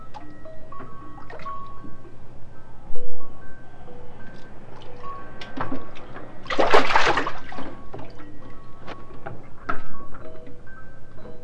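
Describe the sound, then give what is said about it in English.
Bath water sloshes and drips in a bathtub as a small child bathes with a cup, with scattered small splashes and one louder burst of splashing midway. “Oh, don't get your bath water in the cup.”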